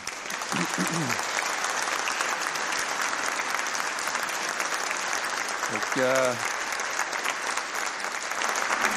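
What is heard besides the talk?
warm applause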